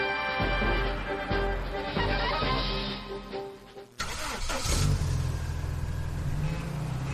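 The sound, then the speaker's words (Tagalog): A car engine turns over and starts, then runs with a steady mechanical rumble; a sharp burst partway through gives way to a rougher, louder idle, unaccompanied by speech. “O sa syudad, tulad ng mga kotse na bumubuo ng 30% ng aking mga alagad.”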